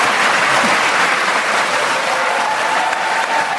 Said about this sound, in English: Please join me in giving a big round of applause.